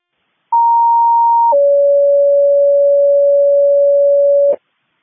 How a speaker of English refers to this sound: Can you page out engine 34 using the first responder tones to our location?